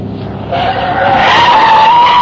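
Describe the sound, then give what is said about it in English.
Car tires screech loudly as a car makes a hard turn onto a frontage road leading to residential track homes, a sustained, rising squeal lasting a couple of seconds over rushing engine and road noise, intense. “I made a hard turn onto the frontage road leading to the residential track homes.”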